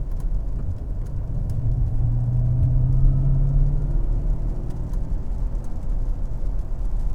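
A steady low rumble of a car's interior while driving at 66 miles an hour in sixth gear, broad road and engine noise filling the cabin at an even level, with a faint tonal hum rising briefly in the middle.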